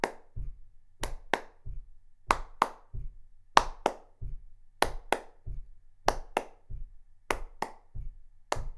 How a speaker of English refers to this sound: So your feet go one, two, left, right, left, right, left, right. And your hands clap.